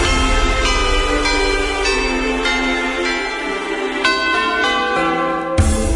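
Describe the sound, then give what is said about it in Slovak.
Church bells peal loudly and steadily over the landscape, each strike landing about every half second, their rich overlapping tones ringing on and blending together, with no voices present. “Zvony nad krajinou.”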